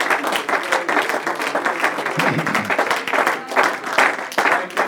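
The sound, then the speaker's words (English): A church audience claps hands together in sustained, dense applause of praise to God during a morning service, steady rapid clapping at a fairly loud level, with no voices standing out. “Let's give Him a hand clap of praise this morning.”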